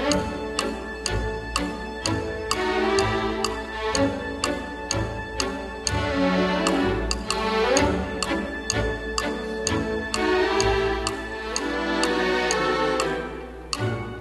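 An orchestral piece with a steady, prominent ticking like a clock running through it, bright woodblock-style ticks keeping a brisk rhythm over strings and winds, played loud and full without any voices.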